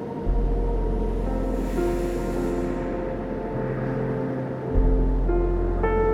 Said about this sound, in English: Breathe now and find the calming rhythm of the waves.